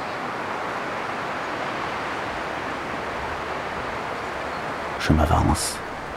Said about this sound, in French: Le vent que vous entendez, tel le ressac de la mer, se cogne aux branches déployées.